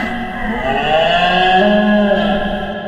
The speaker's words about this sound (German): Okay, manchmal ist es etwas laut, wenn der Hirsch rührt. Aber der gibt auch wieder Ruhe.